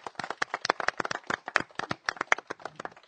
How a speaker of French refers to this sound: Ah bon, on peut l'applaudir encore.